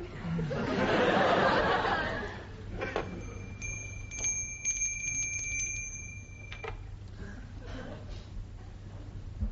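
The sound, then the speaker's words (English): An electric bell rings steadily for a few seconds with a bright, buzzing metallic tone, preceded by a burst of laughter and followed by quieter background noise. “Aren't you going to ask me why I rang the bell?”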